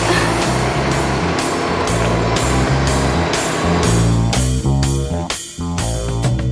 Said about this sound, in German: Das Dröhnen des Bohrers begleitete die sechs Kinder noch ein weites Stück den Gang hinab.